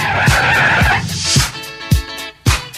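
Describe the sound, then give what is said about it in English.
Car tires screech in a loud, sustained skid, sharp, with rhythmic thumping beats punching through underneath. No one speaks. “So I hopped into my car, didn't get very far, no.”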